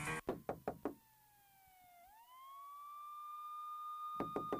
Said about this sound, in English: Who is that knocking at the door? Why you out there banging like the police?